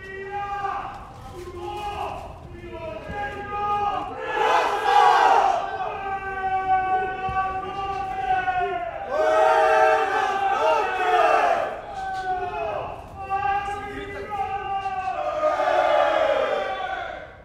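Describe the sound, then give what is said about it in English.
Many inmates shouting and yelling over one another in loud, raucous bursts in a prison reception unit during the nightly shutdown routine at 10 o'clock at night, voices rising into cries and whoops that swell and fade continuously, with no quiet gaps between the outbursts. “That's the shutdown routine in reception that happens every night.”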